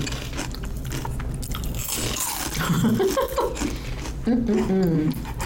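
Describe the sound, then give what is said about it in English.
Steady crunching and chewing of crispy ranch-flavored veggie straws runs throughout, with a couple of short hummed, appreciative voice tones rising over the munching near the middle and end. “I actually brought ranch-flavored veggie straws today. Maybe we'll do an ASMR later.”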